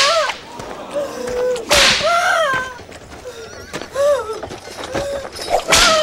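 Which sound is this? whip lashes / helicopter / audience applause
whip lashes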